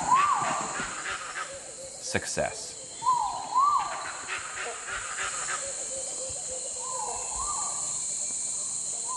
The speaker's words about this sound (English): A few seconds later, however, we got to hear the gibbon call.